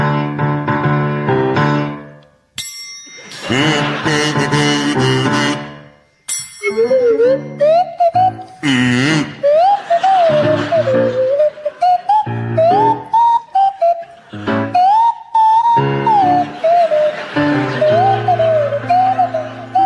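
A buzzy kazoo and a sliding swanee whistle play a jaunty tune together, the whistle gliding up and down in swoops over the kazoo's rasping melody and a backing accompaniment.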